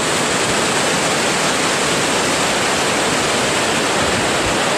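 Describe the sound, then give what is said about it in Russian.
Loud, steady rush of churning water, like a torrent or small waterfall, a dense continuous roar with no breaks and no voices. “Вы слышите, друзья, как шумит бурлящая вода?”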